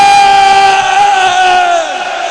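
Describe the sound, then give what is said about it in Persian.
A large crowd of men and women on Tasua night shouts "Hussein" together in a single long, loud, sustained cry that holds one steady pitch for about two seconds before sliding slightly lower and easing off. “زن و مرد دستا بیاد بالا، بیرونیا همه میخوام فریاد بزنن حسین.”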